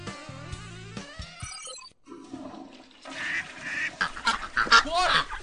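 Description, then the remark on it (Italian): A duck quacks in loud, nasal bursts, several squawks clustered close together near the end, over a rushing, flush-like wash of noise that follows a brief tonal, honking opening. “Quindi adesso fuori anatra VIP.”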